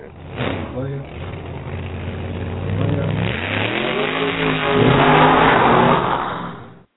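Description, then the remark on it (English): A drag race car engine revs loudly, its pitch climbing in repeated surges and swelling to a roaring peak before cutting off abruptly after several seconds. “That was a drag race car.”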